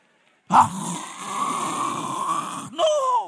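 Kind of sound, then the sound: vocal imitation, imitated snoring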